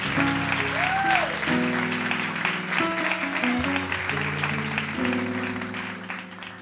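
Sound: audience applause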